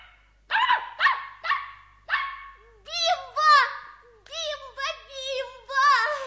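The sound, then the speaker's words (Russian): A small dog named Bimbo, held in a child's arms and licking his cheeks, yaps loudly in a rapid string of about nine high-pitched barks; the first few are short and sharp, the later ones longer and whinier. “Малыш держал Бимбо на руках, а тот лизал ему щеки, громко тявкал, обнюхивал уши.”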